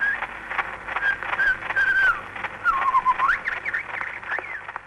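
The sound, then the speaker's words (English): The first recording of a bird: Indian shama birdsong recorded in 1889 by Ludwig Koch as a boy, on an old Edison cylinder. Thin whistled phrases rise and fall, heard faintly through heavy crackle and hiss, with a muffled, narrow tone and no voices. “The first recording of a bird. In fact, an Indian Sharma bird, made in 1889 by an 8-year-old boy from Frankfurt called Ludwig Koch.”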